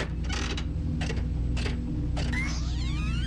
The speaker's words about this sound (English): She's going for the big fruit machine. Okay, think lucky thoughts.